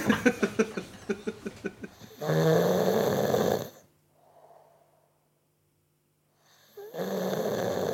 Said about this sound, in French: C'est mon papa qui ronflait sur le canapé.